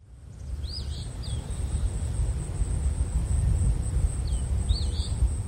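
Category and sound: bird, eastern phoebe song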